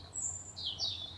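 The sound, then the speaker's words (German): Evening birdsong: a few high, thin chirps and sliding whistles follow one another over a steady low hum, moderately loud, with no voices. “man die ganze Zeit Vogelgezwitscher hört”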